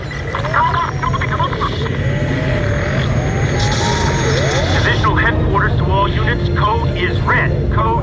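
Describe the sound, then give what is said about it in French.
Busy indoor exhibition hall ambience at the Eurosatory arms trade fair in 2012, where drones are on display: a steady low rumble and hum with overlapping crowd chatter and scattered voices, plus faint mechanical tones layered throughout. “Et pour comprendre les enjeux et pour comprendre le marché du drone, d'abord une visite à Eurosatory au salon de l'armement il y a un an, en 2012.”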